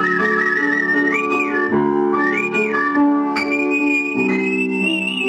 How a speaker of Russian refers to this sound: В части этого выпуска передача Тамары Леленковой «Художественный свист».